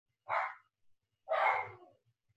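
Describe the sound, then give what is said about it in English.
Two loud dog barks about a second apart, the second longer and rougher, each bursting out sharply and trailing off, with quiet low rumble in between. “Oh, and my dogs are gonna go off and go crazy.”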